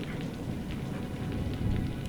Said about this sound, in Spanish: De repente, escuchas truenos y la lluvia comienza a caer.